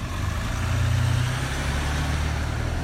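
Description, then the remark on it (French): A car's engine rumbles with a low, steady drone and broad road noise, swelling slightly as it passes and holding fairly loud throughout. Nobody speaks. “Ah bah tiens, justement, voilà la voiture dont je parlais tout à l'heure.”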